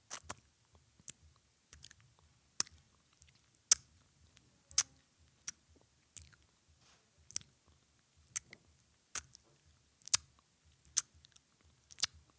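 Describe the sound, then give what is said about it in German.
Wet lip smacking and chewing mouth sounds that a person makes deliberately for the listener: a string of sharp little clicks and pops at an uneven, unhurried pace, quiet and intimate, with no talking. “Ich schmatz mal für dich eine Runde.”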